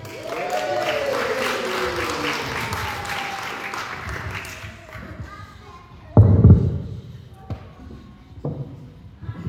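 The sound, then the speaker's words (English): A church audience applauds loudly for a preacher, the dense clapping tapering off after several seconds, followed by a few scattered thuds and light movement sounds. “Let's have another round of applause”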